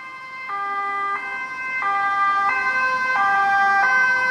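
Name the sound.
ambulance siren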